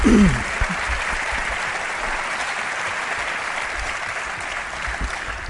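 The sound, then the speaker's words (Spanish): The audience of the program Espacio en Blanco applauds a surprise guest steadily for several seconds, a dense, even wash of clapping that holds at a fairly loud level throughout, with a brief voice at the very start. “Os pido un aplauso para él, este tipo tan raro que ha aparecido aquí de repente ahora.”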